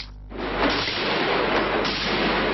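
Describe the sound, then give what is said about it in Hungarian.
A stun grenade goes off with a sudden loud burst during a police counter-terrorism hostage rescue at a financial institution, followed by a dense, sustained roar of noise that lingers for a couple of seconds. No voices are heard. “Ezek a túszszabadítás képei, a robbanás és a szikrázó villogás fény és hanggránát.”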